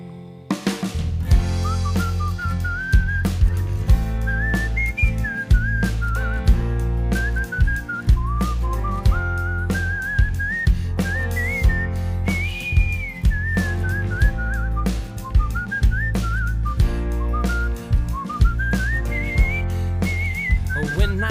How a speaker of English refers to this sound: Everywhere that I go, I am always early. So I whistle a tune just to get by.